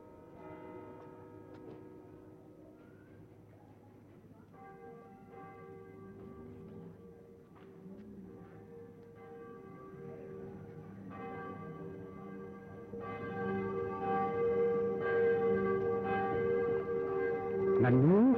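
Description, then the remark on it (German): Church bells peal continuously at 11 o'clock, the so-called civic ringing that signals field and forest workers, with overlapping, resonant strikes that swell and grow louder toward the end, their rich ringing tones layering into a dense, sustained chime. “Wird denn jetzt geläutet um 11 Uhr? Das ist das sogenannte bürgerliche Läuten.”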